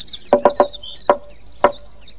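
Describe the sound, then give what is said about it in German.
A knock signal demonstrated as a secret code for being let in at home: three quick knocks in a row, then three slower, evenly spaced knocks, each a sharp hollow rap, with faint high chirping running in the background. “Wenn ich wieder mal in den Wald hinaus muss und ihr müsst allein zu Hause bleiben, dann macht ihr nur auf, wenn ich 3-mal schnell und 3-mal langsam klopfe.”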